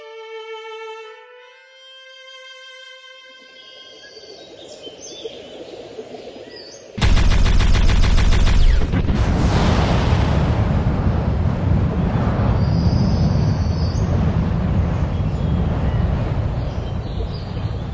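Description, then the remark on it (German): Eerie electronic tones hum and waver, then a spaceship explodes in a sudden, loud blast that rolls into a long, roaring rumble of debris and fire lasting to the end, as the last wreckage sinks slowly in a rain of fire onto a calm, dark lake on the planet Krotos. “Die letzten Trümmer des explodierten Schiffes sinken langsam in einem Regen aus Feuer auf einen ruhigen, dunklen See nieder.”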